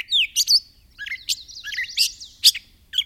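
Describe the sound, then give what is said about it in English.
A catbird sings a rambling, continuous jumble of high squeaky chirps, whistles and scratchy notes, varying in pitch and loudness with no voices present. “As part of the competition, the two combatants sing their way to higher and higher perches.”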